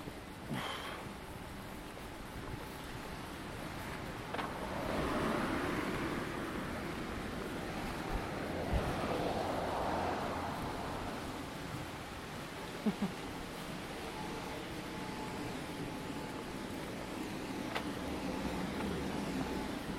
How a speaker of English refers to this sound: Sound of the car wash, you can hear that kind of high-pitched noise as the dryer just stopped.